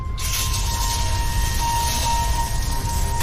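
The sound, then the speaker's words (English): A woman pulls on the faucet tab in a motel bathroom and the shower bursts on and runs steadily, a loud, even hiss of spraying water with a low rumble underneath, holding constant for about three seconds before cutting off. “She pulls on the faucet tab, starting the shower.”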